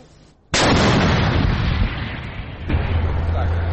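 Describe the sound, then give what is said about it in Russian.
A single heavy gun blast as a tank crew fires from a covered firing position at an enemy platoon strongpoint hits suddenly and loudly, then rolls into a long, deep rumbling decay, with a steady low drone beneath it toward the end. “Экипаж штанка отработал с закрытой огневой позиции по взводному опорному пункту противника.”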